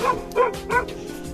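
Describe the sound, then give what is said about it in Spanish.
A dog barks three times in quick succession, short yappy woofs with a slightly whiny, high-pitched edge, fairly loud and with no voices around it. “En primavera, mi amigo me espera para ir en mi coche a un concurso en el que yo escucho a un chucho.”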